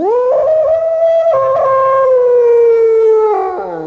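A wild dog howls in one long, sustained wavering note with rich harmonics, the pitch sliding slightly up and down before dropping at the end. Loud and alone, with no talking.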